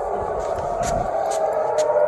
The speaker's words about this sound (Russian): Сирена, слышь, заорала?